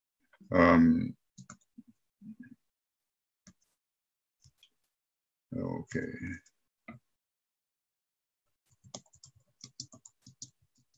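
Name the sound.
keyboard keys clicking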